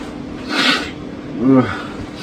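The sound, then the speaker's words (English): A person sick with the flu lets out a single sharp, breathy sneeze, followed a second later by a short, throaty snoring snort against a faint steady hum. “Or listen to me sneeze and snore.”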